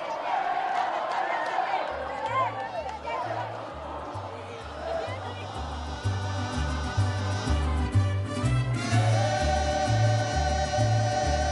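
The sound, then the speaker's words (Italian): A festive crowd, many of them young people, cheers and shouts continuously as Pope Benedict XVI rides in the Popemobile from the airport of León, Guanajuato, Mexico, to the pontifical residence. Voices rise in excited whoops over a steady, rhythmic low beat like drumming or chanting that grows louder toward the end. “Infine per Benedetto XVI il bagno di folla festante, moltissimi giovani che senza soluzione di continuità lo ha accompagnato nel trasferimento in Papa Mobile dall'aeroporto di León, Guanajuato, sino alla residenza pontificia del Collegio Santissima”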